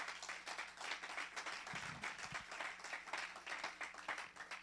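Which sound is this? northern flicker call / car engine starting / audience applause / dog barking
audience applause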